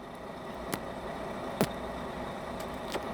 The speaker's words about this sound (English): And I have a cigar here, but it went out because I'm talking too much. Let me relight it.